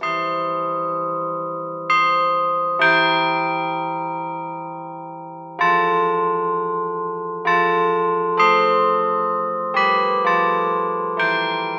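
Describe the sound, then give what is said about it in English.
The cast bronze European bells of a Chime Master Carillon ring out a slow melody, each struck note blooming loud and rich, then decaying into a long shimmering hum that overlaps the next strike. No voices. “The cast bronze carillon features European cast bells, selected for their quality to make the melody line of a song clear, even from a distance.”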